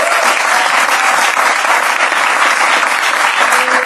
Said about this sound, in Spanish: La gente ahí aplaudiendo.